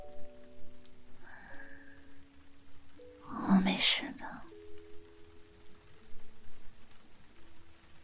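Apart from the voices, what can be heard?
rain falling outside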